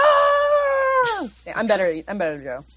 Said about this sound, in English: And I'm for mine, I'm just going to insert Godzilla's actual roar show you all up.